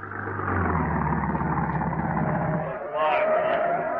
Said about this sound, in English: And now, back in the bus station at Wistful Vista, it's just 3 a.m. as we find Fibber and Molly watching the bus pull in.